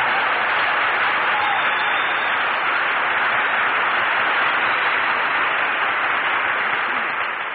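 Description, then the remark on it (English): Sustained audience applause at a radio broadcast as Phil Harris makes his entrance, a dense, steady roar of many hands clapping that stays loud throughout before easing slightly at the very end. “Say, Phil, why is it every time we broadcast from a new place, you always make your entrance by asking for applause?”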